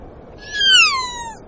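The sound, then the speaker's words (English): A single loud call of a kea, an alpine parrot of New Zealand: a drawn-out, wavering cry that slides downward in pitch and lasts about a second, clear over a faint low background rumble. “Alpine parrots, called kia after their calls.”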